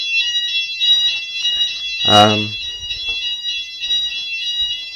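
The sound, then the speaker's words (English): A building fire alarm, going off again at about 9:20 in the morning on 12 July 2011, rings continuously with a shrill, high-pitched tone that never lets up, while a brief loud voice cuts in partway through and faint background noises stir beneath it. “And as you can hear, the bloody alarm's gone off again.”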